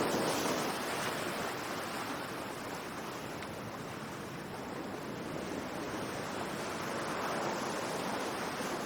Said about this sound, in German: Dein Körper schwebt auf den seichten Wellen, die Sonne wärmt dein Gesicht.